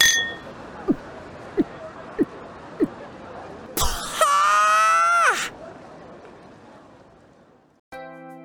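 A run of five sharp, bright clinks of glasses touching in a toast, evenly spaced, followed by a loud, noisy burst with warbling tones that cuts off abruptly. No one speaks.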